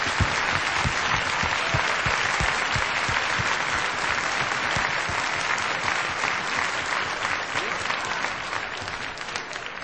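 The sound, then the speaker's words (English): Sustained, dense applause from a large audience for an orchestra, steady and loud throughout with a faint crowd murmur underneath, tapering very slightly toward the end. “Would you give them a big round of applause, please?”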